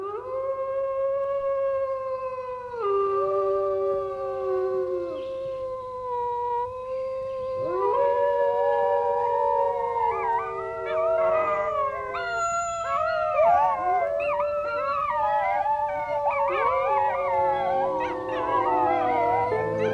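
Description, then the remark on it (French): Wolves howl in long, sliding tones, a single voice at first, then several overlapping into a dense, wavering chorus that fills the second half. The howls are fairly loud, with no talking. “Après la notion de territoire, la famille chez les animaux, l'alimentation chez les animaux et le rôle sanitaire des prédateurs, voici le langage des loups et des animaux en général.”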